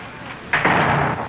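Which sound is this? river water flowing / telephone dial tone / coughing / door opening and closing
door opening and closing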